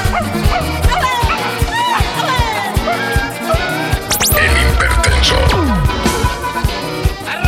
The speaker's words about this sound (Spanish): Pero el perrito me ladra y tengo miedo que me muerda.